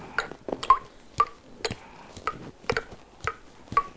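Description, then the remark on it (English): Rain drips steadily through a hole in a roof, a string of sharp, irregular plinks and taps, some with a brief ringing tone, at moderate loudness with no voices. “It started raining and the rain is dripping through a hole in the roof.”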